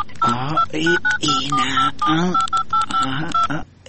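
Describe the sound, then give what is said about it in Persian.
A rapid run of touch-tone dialing beeps as a phone number is dialed to call a cousin, short paired tones in an uneven rhythm, layered over a person talking continuously throughout. “باش که اینا زنگ بزنم.”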